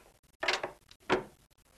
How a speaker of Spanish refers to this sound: Kramer cierra la puerta.